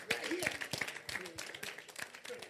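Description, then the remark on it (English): A crowd claps steadily for the Lord Jesus in a dense, continuous wash of overlapping hand claps, moderately loud, with faint voices and cheers mixed in underneath. “Clap for the Lord Jesus.”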